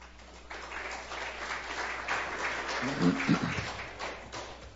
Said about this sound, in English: Wow, I've never been applauded before. That's pretty good. Thank you so much.